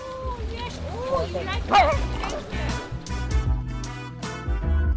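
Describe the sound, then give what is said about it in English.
Dogs bark and yip in several sharp bursts spread across a few seconds, fairly loud, over a steady background murmur with a faint whimper mixed in, at the Milken Institute Global Conference in Beverly Hills, California. “Institute Global Conference in Beverly Hills, California, where the most powerful politicians and business leaders in the world and some dogs have gathered.”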